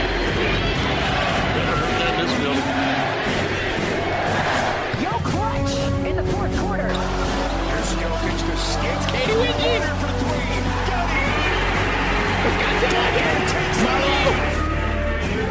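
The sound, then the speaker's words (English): A large arena crowd at a Denver Nuggets basketball game against Portland roars steadily, then swells into a loud, sustained chant with many voices singing together, the dense noise continuing without a break to the end. “Crowd chanting. There he is. Listen to it.”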